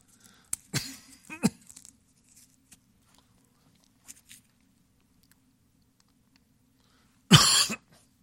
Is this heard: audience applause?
no